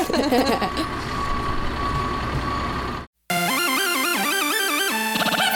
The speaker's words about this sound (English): Here comes the truck.